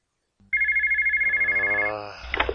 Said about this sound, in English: Why are you answering the phone? You should be on your way here. If I'm not supposed to be near my phone, why are you calling it?